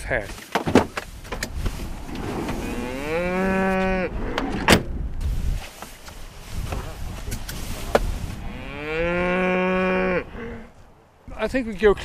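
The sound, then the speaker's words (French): Two long, drawn-out moos a few seconds apart from hornless Swedish Red cows, a hardy rustic breed, loud, with clattering, knocking noises and a rustling background between them. “On peut se rapprocher, ce sont des rouges suédoises rustiques. Ce sont des vaches sans cornes.”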